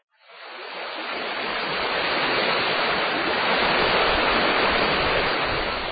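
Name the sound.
mountain river water flowing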